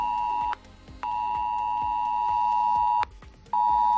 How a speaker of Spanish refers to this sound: Y ese fue el sonido que copó los móviles de miles de extremeños sobre las 10 de la mañana y que asustó, porque siempre impacta cuando no te lo esperas.